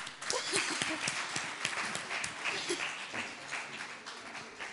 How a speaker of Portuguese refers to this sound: Uma salva de palmas, meus senhores.